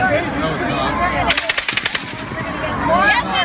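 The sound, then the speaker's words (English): A rapid burst of roughly eight or nine loud gunshots from a real gun, sharp cracks fired in quick succession, recorded on an iPhone over a steady background of agitated voices and shouting. “That is a real gun.”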